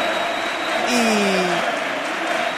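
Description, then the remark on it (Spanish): Stadium applause at the end of a match, an ovation for departing Sevilla coach Lopetegui, a steady dense wash of clapping from a large crowd, with a brief falling tonal cry rising above it midway before the clapping carries on evenly. “Ahora sí veo la ovación merecida, porque en este caso acaba el partido.”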